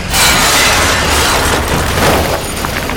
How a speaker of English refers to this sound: Moments later, the gravel was dumped into the back of the truck.